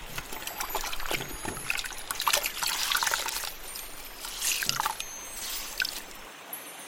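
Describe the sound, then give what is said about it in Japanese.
Water trickles and babbles steadily over stones in a river, with small splashes and gurgles rising and falling before the flow fades out at the end. No one speaks. “私がこの川に何をしに来たか、当然洗濯じゃろうな。”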